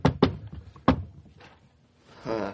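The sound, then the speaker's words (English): Three solid knocks on an apartment door, two in quick succession and then a third after a short pause, loud, followed by a brief voiced sound at the end. “Just as the microwave beeps, you hear a knock at the door.”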